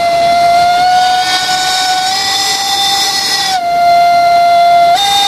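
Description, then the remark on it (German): A steam locomotive whistle on the Furka mountain railway, sounded by the driver as the train runs toward Oberwald to announce its arrival, blows loud in one long sustained blast, its steady shrill tone wavering slightly in pitch, with a brief dip near the end before resuming. “Und immer wieder pfeift der Martin Horath, dass ihm fast das Trommelfell platzt.”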